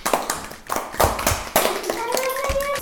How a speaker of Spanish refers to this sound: Muy bien, pues muchísimas gracias. Un aplauso para las cocineras.